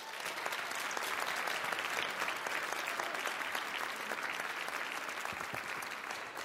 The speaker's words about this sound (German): Nochmal einen großen Applaus für euch.